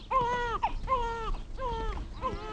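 An infant held in a man's arms, pale from hunger, cries in repeated wailing bursts, about four strained, high-pitched sobs with short gasps between them, fairly loud over a low rumbling background.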